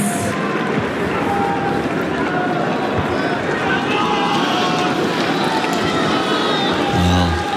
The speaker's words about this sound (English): Crowd, a little restless, doing everything they can to give Tsitsipas a feeling of hope on this Alcaraz service game.